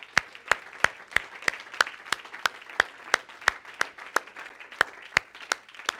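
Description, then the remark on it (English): An audience claps their hands together to give thanks to God, in a steady, even rhythm, sharp unified claps ringing out about three times per second with no voices over them. “Could we just clap our hands and give Him thanks?”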